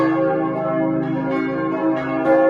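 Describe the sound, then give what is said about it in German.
A full peal of church bells rings out in Bötschow again after over 100 years, several bells sounding together in a dense, sustained wash of overlapping tones with strikes layering over lingering hum, fairly loud. “Na, über 100 Jahre bimmelt in Bötschow wieder das volle Geläut.”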